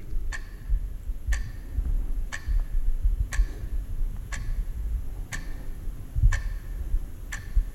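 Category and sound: household object, clock ticking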